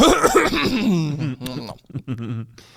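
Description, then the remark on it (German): A drawn-out throat clearing with a rough, voiced rumble, followed by a few shorter raspy bursts and breaths before trailing off. “Wie kann man mit so einem Räusperer starten?”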